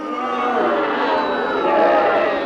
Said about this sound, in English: really began when Cornwall blatantly blinded Gloucester in the penalty area, and referee Ken Parry of Swansea waved play on, unleashing a storm of booing from the incensed Gloucester supporters, which reached a crescendo as Sir John stepped forward.